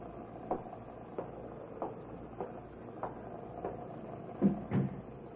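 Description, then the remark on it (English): A storeroom door opening or closing: a run of faint, evenly spaced clicks and creaks, then two louder, heavier thuds close together near the end. No one speaks. “That's the door into the storeroom.”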